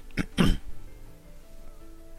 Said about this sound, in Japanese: 今変なとこ入った感じで、あ、やっべえと思ったんですけど、読んでる最中に。あ、咳っつっても、あの、なんだ、あの、普通の風邪とかの咳じゃなくて、あの、変なとこに入った感じで、むせたみたいな感じです。